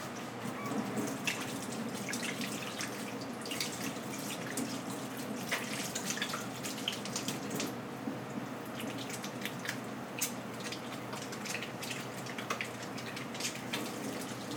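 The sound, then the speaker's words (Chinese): Someone washes their hands while cooking meatballs: steady running tap water splashes into a sink, with irregular drips and brief clattering splashes as hands move under the stream, continuous throughout with no talking. “我先洗个手一下。”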